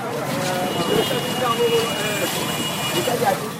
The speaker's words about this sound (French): Nous sommes un samedi matin du mois de janvier 2022 à Zungamé. Il sonne 11h à la berge du cours d'eau appelé Agbukanou qui relie plusieurs localités à Zungamé. La circulation est dense sur la seule voie qui mène à Zungamé ce jour du marché de Lokosa.